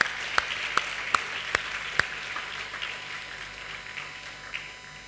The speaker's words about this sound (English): It is Father's Day. Happy Father's Day to all the dads. Can we give the dads a clap?